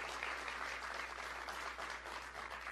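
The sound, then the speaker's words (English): A large audience applauds steadily after a speaker's line that Iran cannot be allowed to have a nuclear weapon, dense overlapping clapping holding a constant, loud level for the whole stretch with no voices rising above it. “Biggest applause so far.”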